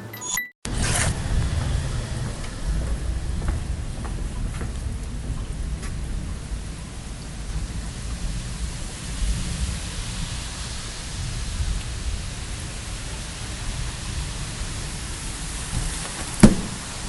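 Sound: rain falling outdoors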